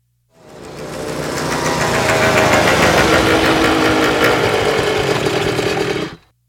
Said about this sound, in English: There is a problem, said Dave, and he started the engine. All three motorbikes arrived at the corner at the same time.